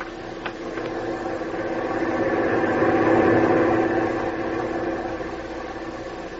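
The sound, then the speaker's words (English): A truck engine rumbles closer as the truck comes down and stops in front of a boat, growing louder, then settles into a steady idle. The low, continuous drone has no voices over it. “Is that the truck coming down here?”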